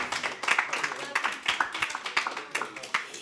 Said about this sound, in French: Allez, on peut l'applaudir, ouais.